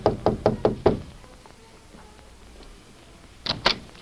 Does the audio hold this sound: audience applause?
no